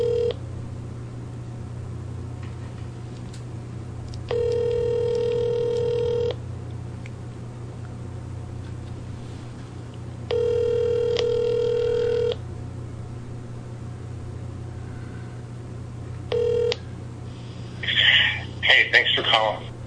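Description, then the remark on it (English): A phone line rings out while waiting for an answer: long two-second ringback tones separated by long pauses, a third ring cut short, over a steady low hum. “Answer your phone, please.”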